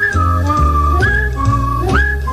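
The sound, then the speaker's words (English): Someone whistles a short, sliding melody, loud, over steady instrumental music with a low bass accompaniment. Nobody speaks. “Boy, that's when all Los Angeles will be whistling and singing the same tune.”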